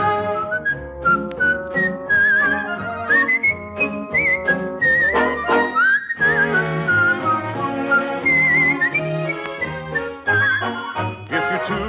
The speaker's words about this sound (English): Tiny whistle, it'll make a little tune, and soon your penny whistle sound is floating to the moon.